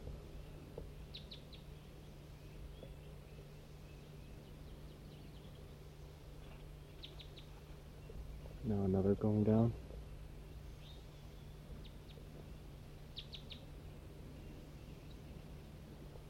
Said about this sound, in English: A few more just joined. There must be a whole big flock in this tree right above me.